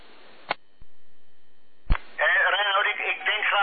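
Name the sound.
telephone keypad beeps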